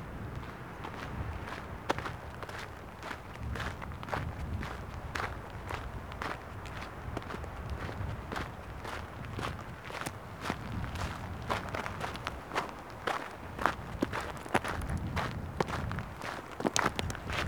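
Steady footsteps crunch on a stony path in the fragrant forest of the Massif de la Clappe, each step a sharp gritty scrape in a regular walking rhythm, with a low rumble of small wind gusts underneath and no voices.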